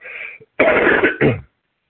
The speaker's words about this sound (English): Pardon my cough.